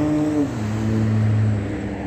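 A helicopter drones overhead at Holt and Euclid, moving from the museum, a loud, steady engine roar with a low hum that dips slightly in pitch partway through, no voices, constant noise throughout.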